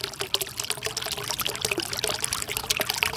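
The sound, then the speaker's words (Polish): Steady rushing water fills the scene, a continuous splashing flow with dense bubbling and trickling detail, moderately loud, with no voices. “Słyszę szum wody.”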